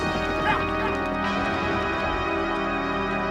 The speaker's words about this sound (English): Saddled up, and with Jane's horses on leads, the posse rides out.